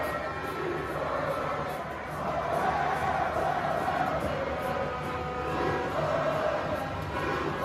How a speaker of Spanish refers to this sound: Al grito de ticos, ticos, así estaba Costa Rica tras la clasificación de su selección para el Mundial.